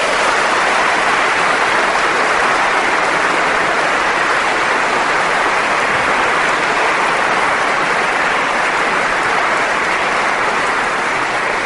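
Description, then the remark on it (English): A large audience at a debate on atheism applauds the two debaters steadily for about twelve seconds, a dense, even wash of many hands clapping at once, loud and sustained without any voices. “I think we owe them a round of applause for that.”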